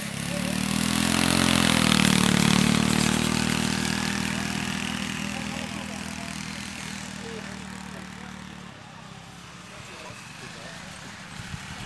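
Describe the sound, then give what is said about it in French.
Loud small lawn tractor engines drone and rev together at a lawn tractor race, a steady buzzing roar that cuts off sharply after about nine seconds and leaves quieter background noise. “Tu connaissais les courses de tracteurs tondeuses?”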